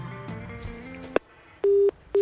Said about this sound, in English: Yeah. Did he just ring me? My phone just rang.